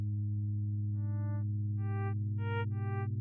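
Computer-generated tones from sonified volcano data collected by the Hawaiian Volcano Observatory: a steady low hum, ground deformation mapped to pitch, underneath while a series of pure electronic tones step in one after another, layered and moderately loud, with no voices.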